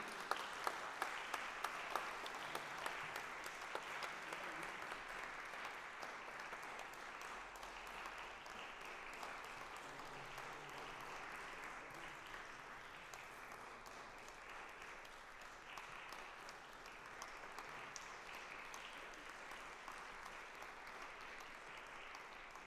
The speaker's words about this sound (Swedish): En stor applåd.